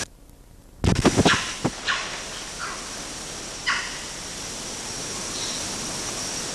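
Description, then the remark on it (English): Short, chirpy chiss calls from an animal burst out over a steady background hiss, a cluster at first and then a few spaced ones, followed near the end by a single faint meow bark. “Chiss and one faint meow bark.”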